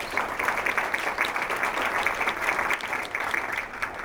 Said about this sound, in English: And also the Friends of the Pikes Peak Library District and the Pikes Peak Library District Foundation. I know representatives of them are here, so we'll give them a round of applause as well.